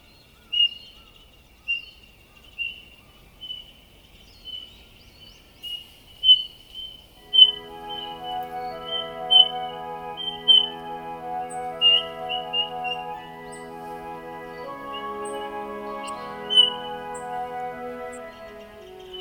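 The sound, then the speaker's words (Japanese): Eurasian bullfinches call to each other as they move slowly through the forest of Meiji Jingu shrine, giving soft, piping whistled calls, one every second or so, in a quiet setting; after several calls, gentle sustained music fades in beneath them. “嘘は鳴き合いながら森の中をゆっくりと移動していきます。”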